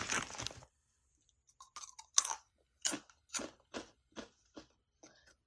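Crunching of vinegar-flavoured crisps: a loud rustly burst followed by a steady series of about eight sharp, crisp chewing crunches spaced roughly half a second apart, with no talking.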